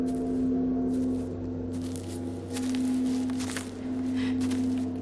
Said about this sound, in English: She turns towards the sound of the footsteps. Two more figures in yellow cloaks appear.